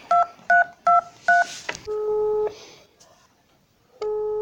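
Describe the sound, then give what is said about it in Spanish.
Four quick, evenly spaced keypad tones beep out a phone number as someone calls a boy to come back, followed by a longer steady tone, a pause, and another sustained tone starting up. “¿Para qué estoy llamando al nene para que vuelva?”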